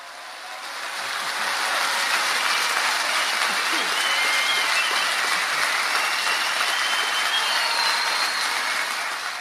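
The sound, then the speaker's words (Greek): A large audience at a concert applauds steadily after a performance, a dense, continuous wash of clapping that swells in at the start and holds loud and even throughout, with no voices rising above it. “Να το αφήσουμε το χειροκρότημα να ακούγεται, να το απολαμβάνει ο Θάνος καθώς ήθελε, συγκινημένος, γιατί η ερμηνεία που μόλις ακούσατε ήταν από την εκδήλωση που, μάλλον τη θεσπέσια συναυλία που με το σύνολο του μελοποιημένου του έργου πάνω στον”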